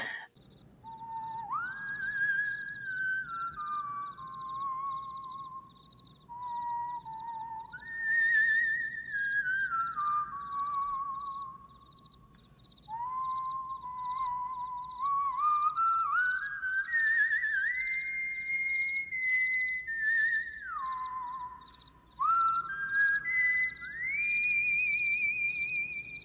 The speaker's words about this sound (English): Jim, he put Garth whistling the Enterprise theme in Wayne's World when they're on top of the car, which I thought was fun.